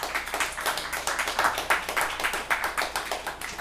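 Applause from an audience: many hands clapping quickly and steadily for a few seconds, a dense crackling patter with no voices over it.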